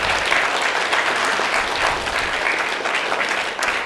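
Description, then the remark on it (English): A crowd at an RMC assembly claps steadily in thanks, a dense, continuous wash of many hands applauding at once, fairly loud and even throughout with no voices standing out. “You don't necessarily have to clap after every one of these”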